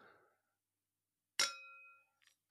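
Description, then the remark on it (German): Two glasses clink together once in a bright toast, the high ring hanging for about half a second before fading, followed by a faint light tap. “So, jetzt machen wir kurz einen kleinen auf Break. Auf die Liebe. Den Motor. Und Antrieb. Für? Alles. Prost, süße Prost.”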